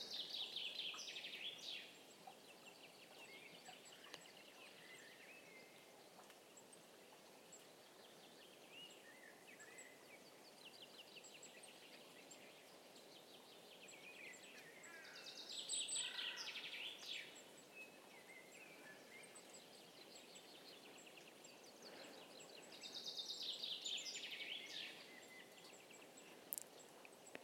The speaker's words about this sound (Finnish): Linnut laulelevat, lunta on vielä jonkin verran maassa ja vettä sataa, kuten kuuluu räystäitä litisevän alas. Mutta varmaan kevät tulee, koska linnut jo laulavat niin jossakin vaiheessa.